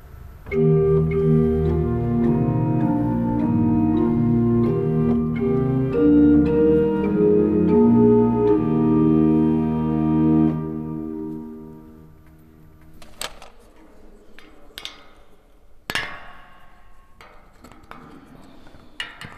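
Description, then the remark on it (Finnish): A pipe organ plays a slow hymn with its manuals coupled so both keyboards sound at once: full, sustained chords for about ten seconds, then the music stops and scattered clicks and clatters follow. “Sitten mä laitan tästä koppelin päälle, eli tarkoittaa sitä, että molemmat koskettimet soi yhtä aikaa.”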